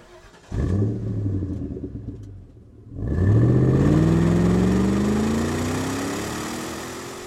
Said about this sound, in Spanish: Encontró el auto, lo encendió y partió hacia Glendale.